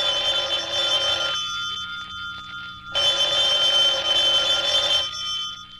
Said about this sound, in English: Oh, hang on. Would somebody answer the phone, please?